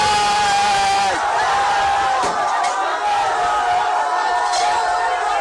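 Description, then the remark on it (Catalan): A large crowd in Dhaka, Bangladesh, roars and shouts continuously while storming and looting the residence of Prime Minister Sheikh Hasina after she fled, a dense wall of cheering voices with scattered sharp bangs and cries rising from the mass, loud throughout. “Immediatament una multitud ha saltat i saquejat la residència de Hasina.”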